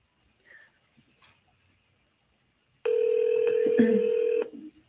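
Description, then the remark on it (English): A few faint clicks, then a loud, steady electronic phone tone lasting about a second and a half, as a softphone places a call to a cell phone and it rings, with faint background sound. “And I'm going to call my cell phone.”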